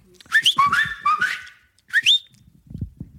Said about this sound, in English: This is my whistle for